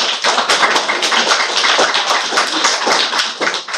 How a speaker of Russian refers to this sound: Когда стихли аплодисменты и зал опустел